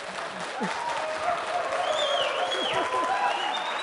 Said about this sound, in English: Can you guys start clapping to upset the guys next door?